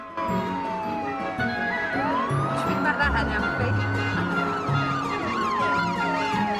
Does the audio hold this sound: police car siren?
yes